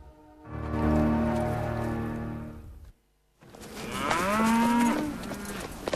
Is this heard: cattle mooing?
yes